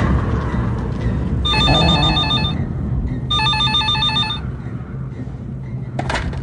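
telephone ringing

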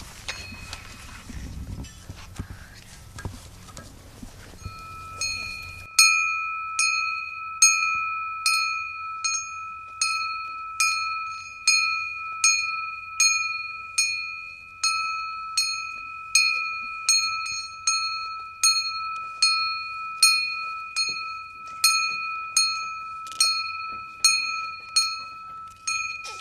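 hand bell rung

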